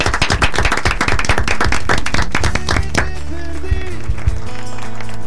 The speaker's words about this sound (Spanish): Les agradezco a todos por venir y nos despedimos como hacemos desde hace muchos años, con un fuerte aplauso. Bravo, gracias.